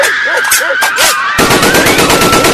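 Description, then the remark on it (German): Loud automatic machine-gun fire given as covering fire: a few sharp shots with a shouting voice, then a sustained, rapid stream of rounds rattling off in a steady rhythm. “Ich gebe Ihnen Feuerschutz!”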